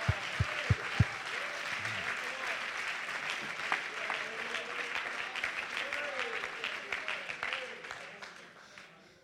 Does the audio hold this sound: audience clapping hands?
yes